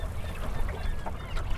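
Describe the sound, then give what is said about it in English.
A gull colony on John's Island, between Frenchboro and Swan's Island off Mount Desert Island, heard while sailing past: overlapping squawks and cries from several birds over a steady, rumbling outdoor backdrop. “But it's a gull colony, so you can hear the gulls.”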